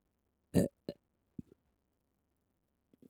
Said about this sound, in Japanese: 出す必要のないゲップを無理やり頑張って作り上げるんだから。